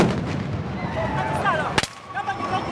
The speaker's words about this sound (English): The sound of police firing tear gas at crowds supporting opposition candidate Kizza Besigye, who was briefly detained.